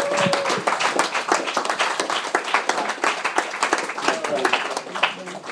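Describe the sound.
An audience gives a final round of applause for the speakers and staff in a dense, steady wash of clapping that holds at a fairly loud level throughout, with a few voices and brief cheers mixed in.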